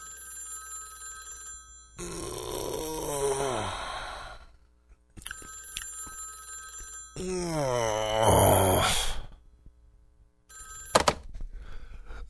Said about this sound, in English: But he has just been awakened by the sound of the telephone ringing.